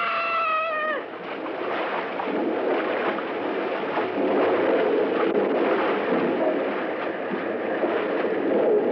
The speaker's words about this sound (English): The roar of the falls is getting too loud. We won't be able to talk much more.